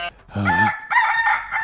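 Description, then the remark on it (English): A rooster crows loudly, a single drawn-out cock-a-doodle-doo with strained, harmonic-rich calls rising and falling across its length. “That's a bigger cock than me.”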